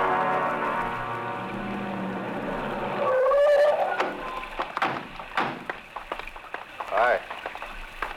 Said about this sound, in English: This rain isn't going to help much.